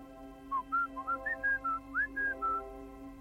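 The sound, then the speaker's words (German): A person whistles a short, clear melody of about nine quick notes, rising and falling in a lilting pattern, heard alone over a faint steady background hum. “Da hörte ich den Pfiff.”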